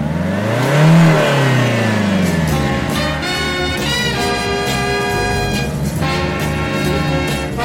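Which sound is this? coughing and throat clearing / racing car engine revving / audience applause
racing car engine revving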